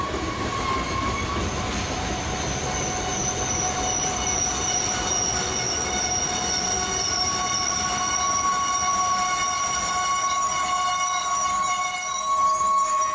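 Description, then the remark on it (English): A train slows to a stop, its wheels and brakes squealing in steady high-pitched tones over a continuous low rumble, loud throughout with no voices. “Slowing to a stop.”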